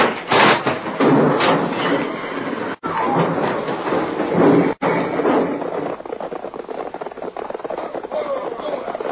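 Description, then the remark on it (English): A runaway stagecoach whose brake has failed clatters and rumbles along in a loud, continuous rush of rattling wood and pounding wheels, briefly cutting out twice before the noisy clatter carries on steadily to the end. “It's a wagon. It's my stage. They pulled it out. I can't stop. The brake. It don't work. We're going to crash.”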